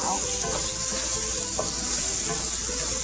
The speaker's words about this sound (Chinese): 一边放，绝对不用锅盖去焖啊，因为你炒青菜哈，如果是你让它保持翠绿的话哈，尤其这个。炒四季豆的时间哈，比一般青菜要久哈。你若用焖的话哈，怕这个颜色呢会不漂亮哈。